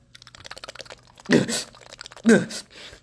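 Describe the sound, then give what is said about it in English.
Two wet slurping sips of soda about a second apart, each a short noisy burst, with faint clicking and rustling in the quiet background between them. “Hold on, let me take a sip of my soda.”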